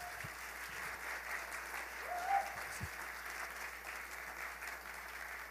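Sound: round of applause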